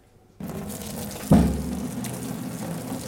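Hot, steaming water from a pot of cooked homemade pasta is drained off, pouring out in a steady, rushing stream, broken by a heavy splash and thud about a second in, then keeps gushing. No voices.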